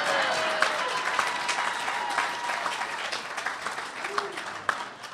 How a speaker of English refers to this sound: You can clap again if you want. It's okay.